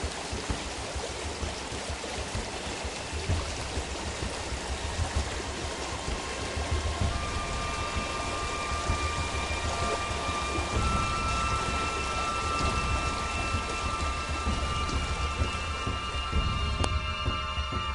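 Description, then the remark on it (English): A thunderstorm rushing through a river valley: a steady wash of heavy rain pours down with a deep, low rumble of thunder rolling underneath, continuous and fairly loud throughout, with no voices. “Watches calmly as the storm sends its cleansing chaos rushing through the valley.”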